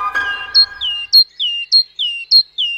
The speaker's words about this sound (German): Kohlmeisen ist wirklich so der Klassiker. Sie ist Zizibäh, schwarze Haube, ansonsten gelblich und blau ein bisschen, aber vor allem gelb-schwarz.